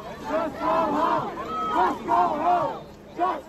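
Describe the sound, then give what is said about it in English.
A crowd of hundreds chants and shouts at police officers at a barricade in support of pro-Palestinian demonstrators at a campus encampment, in loud, rhythmic surges, voices rising and falling together in repeated bursts with a brief dip before another swell. “Hundreds of people were chanting and shouting at officers as they stood at the barricade in support of the pro-Palestinian demonstrators, and they were shocked when all of a sudden the flashbang grenades went off.”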